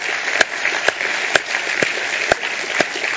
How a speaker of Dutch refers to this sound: Ja, ja, ja, ja, even klappen.